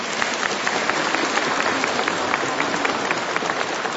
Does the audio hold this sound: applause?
yes